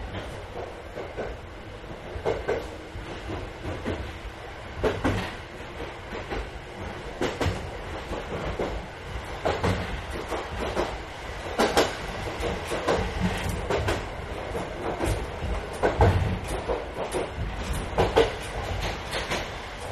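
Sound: train running on rails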